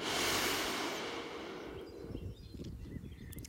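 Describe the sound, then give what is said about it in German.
A deep, slow breath during a guided breathing exercise: a loud, airy rush of air that gradually softens and fades into quieter, rougher breathing noise. No one speaks. “Wir atmen ein, halten die Luft und atmen aus, bis nichts mehr drinnen ist, solange es geht, bis der Bauch ganz, ganz leer wird.”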